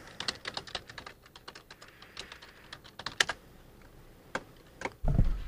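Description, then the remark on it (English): Rapid clicking of keys on a computer keyboard while logging into an account, uneven taps in quick bursts with short pauses, ending in a louder low thump. “let's log into Spotify really quick. Hope you guys are having a good day. I'm bad at typing.”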